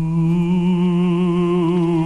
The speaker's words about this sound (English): That sounds like the weird ghost sound effect that we have in the system. I've just put it there. This is our ghost sound effect, okay, for the show.